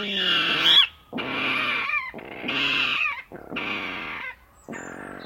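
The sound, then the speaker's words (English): A series of five loud, harsh squealing calls from a water rail, each about a second long with brief gaps, sounding pig-like, with no talking. “Like many birds which skulk in the margins of the reed beds, the water rail is best identified by its vocal antics.”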